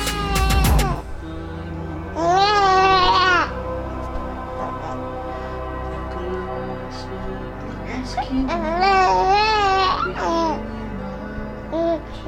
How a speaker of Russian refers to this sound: Засыпай, сыночек, ну ты чего разговариваешься, а? Ну с потешки же, давай. Нет, не хочешь. Не надо спать. Поздненько уже.